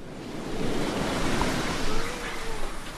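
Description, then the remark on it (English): Steady surf rolls and crashes along a beach shore in 79-degree weather, a broad continuous wash of water moving with a gentle breeze, moderately loud, with no voices. “The waves are steadily crashing along the shore of the beach, moving with the gentle breeze.”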